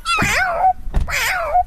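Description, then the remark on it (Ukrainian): A tall grey-haired man imitates a cat for a group of children on a street, giving two drawn-out, wavering meows separated by a short breathy sound, fairly loud with no other talk. “А котик как?”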